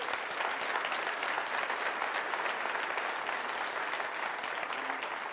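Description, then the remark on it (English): A steady wash of audience applause, many hands clapping at once in a dense, continuous crackle that holds an even level for several seconds with no voices standing out. “Yeah, big round of applause.”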